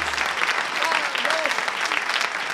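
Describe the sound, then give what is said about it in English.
An audience at a live radio show claps steadily in a dense, even wash of applause, with a few faint whoops or voices rising through the clapping. “Thank you, ladies and gentlemen, buckaroos and buckarettes, for that warm round of applause.”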